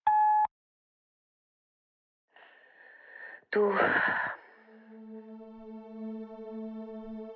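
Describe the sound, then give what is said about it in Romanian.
A single short electronic beep of a voicemail recording prompt sounds at the very start, then breathy vocal noises and a sustained, steady voice humming or singing follow. “Înregistrează un mesaj după semnalul sonor.”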